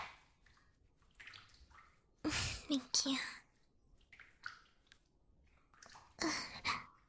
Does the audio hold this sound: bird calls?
no